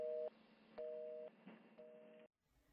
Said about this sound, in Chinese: 美玲挂断了电话